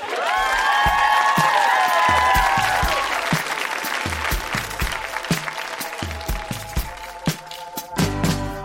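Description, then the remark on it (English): A large audience bursts into sustained applause with cheers and whoops, loud at first, the dense clapping continuing steadily and tapering slightly toward the end, applauding the readers at the show Grown-Ups Read Things They Wrote as Kids at the Rec Room in Edmonton. “Huge round of applause for all of the readers.”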